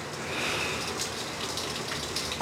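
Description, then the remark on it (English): Steady, hissing spray of shower water running without pause, a broad even wash of noise, with a brief low thump right at the end. “You have been in that shower forever.”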